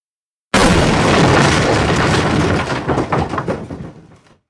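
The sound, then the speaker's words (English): A house lands in Munchkin Land with a sudden, heavy booming thump, followed by a few seconds of loud rumbling and crackling that gradually settles and fades. No voices are heard. “After some time, the house landed with a thump.”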